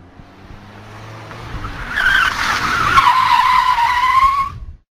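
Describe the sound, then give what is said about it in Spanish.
A car engine rumbles, then tires let out a loud, sustained screech for a few seconds as the vehicle tears away, cutting off abruptly at the end. “Tengo que dejaros porque el coche negro que siempre me viene siguiendo, veo que está ahí esperando.”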